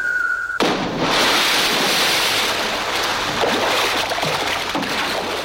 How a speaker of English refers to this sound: He leaps from the 14-story tower. Jump. And plunges immediately into the ocean below.